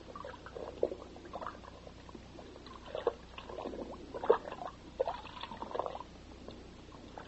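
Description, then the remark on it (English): A wrapped package is plunged into a bucket of water with wetting agent in it, followed by several seconds of sloshing, gurgling and bubbling as the water settles. Moderately quiet, with no voices. “Well, we couldn't detect anything that would trigger the thing, so we'll put it in the water bucket here.”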